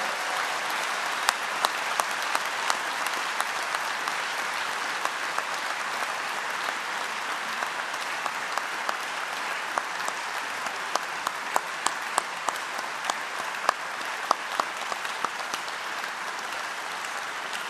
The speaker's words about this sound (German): So, und jetzt könnt ihr mal alle Beifall klatschen für diese tollen Leute.